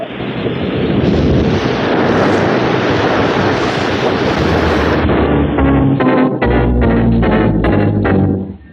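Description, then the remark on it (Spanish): A helicopter crashes into the sea and sinks almost immediately: a loud, sustained roar of rushing water and impact noise, giving way to a rapid rhythmic thumping and a low engine drone before it cuts off. “Calimán se ha lanzado al agua en una zambullida pasmosa al justo tiempo en que el helicóptero caía en el mar, hundiéndose casi de inmediato.”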